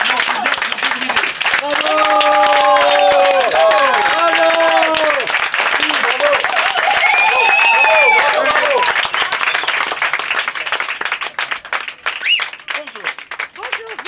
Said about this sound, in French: Alors aux visiteurs qui viennent de nous rejoindre, nous accueillons maintenant la société Éventail. Ils sont en t-shirt bleu. Je vous demande de les applaudir très fort.